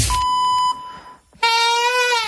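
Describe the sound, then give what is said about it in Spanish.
A slightly hoarse whistle signal, the acoustic signal marking the start of the radio programme Agropopular: a thin steady tone for about a second, a short pause, then a louder, buzzier whistle note with a faint waver that runs to the end. No one speaks. “Nos ha quedado ahí la chifla un poco afónica.”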